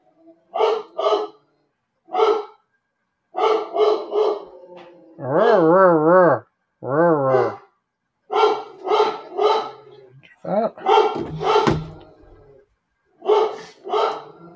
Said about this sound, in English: Let's wait for the dog to shut up. Somebody just come by or something.